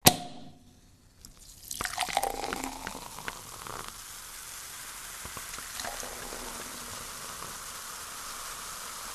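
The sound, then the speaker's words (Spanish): Sparkling wine fizzes in a glass, a dense, steady crackle of tiny bubbles popping after a brief initial splash, continuing evenly with no voices. “y también para nuestros oídos, que no escucharán el sonido del descorche ni el sonido de las burbujas crepitando.”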